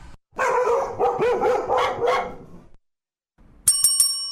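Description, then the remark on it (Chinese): A dog barks loudly and close by, about six quick barks in a rapid run, then after a short silence a bright bell rings a few times. “横跨20载，癫狗照吠。”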